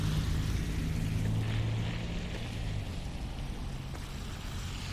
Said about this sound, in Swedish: Om du tycker att de här trafikljuden är jobbiga så kan du hoppa fram en liten bit. Jag ska verkligen göra mitt bästa för att undvika det.